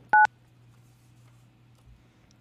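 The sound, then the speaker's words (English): A single short telephone keypad beep from dialing out on a call, a crisp dual-tone chirp at the start, followed by a couple of seconds of quiet, steady low hum with no talking. “The beeps were so entertaining.”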